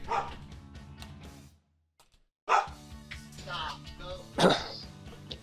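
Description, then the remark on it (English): A dog barks a few times in short bursts over background voices, with a brief silent gap before a louder, sharp bark near the end. “Sorry, my dog.”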